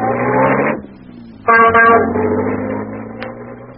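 vehicle, old taxi engine driving

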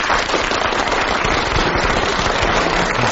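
crowd, audience clapping

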